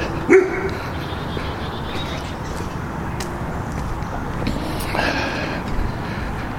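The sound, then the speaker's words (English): A single sharp dog bark rings out near the start, followed a few seconds later by a dog's high, whiny whimpering, both close by over a steady rumbling background noise. “Hello, doggy.”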